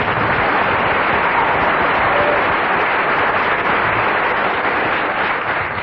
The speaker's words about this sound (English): I must invite you to give a huge round of applause to the only member of the quartet who didn't get a single laugh throughout.